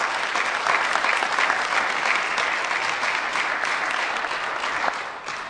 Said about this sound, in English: I'll give this man a great round of applause.